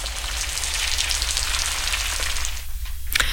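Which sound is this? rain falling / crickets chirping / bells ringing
rain falling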